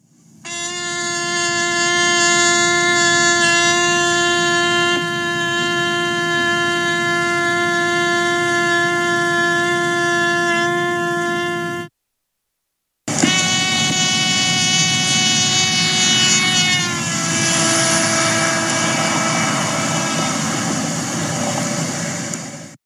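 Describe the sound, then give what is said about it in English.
A sustained note from a trumpet played inside a car rides over the rumble of the car's engine, steady at first; after a short break the note returns as a bystander would hear it, sliding noticeably lower in pitch as the car passes by, showing the Doppler effect. “Then you'll hear how the pitch of the trumpet changes according to what a bystander might be hearing as the car and the trumpet approach and recede.”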